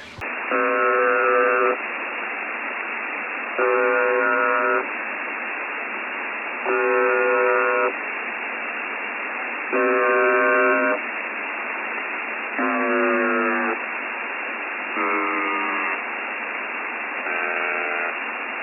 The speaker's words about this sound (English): On April the 7th, the buzzer started to break down, and we've had several breakdowns since then, breaking down 6 times in total on April 7th, and we'll play you the sound of the buzzer breaking down right now.